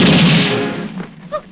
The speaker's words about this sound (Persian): مرد لال با اسلحه به مرتضی شلیک می‌کند.